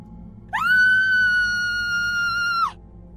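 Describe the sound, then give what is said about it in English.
A woman lets out a single long, high-pitched scream, holding one steady shrill note for about two seconds before it cuts off, loud over a faint low background hum. “Then she screamed.”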